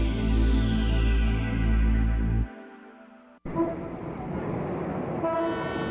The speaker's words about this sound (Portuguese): Nossa, tá impossível esse trânsito. Que falta de respeito. É um absurdo buzinar desse jeito. E aqui na esquina ainda tem um hospital. Você quer passar por cima? Ô, oh, você tá vendendo buzina?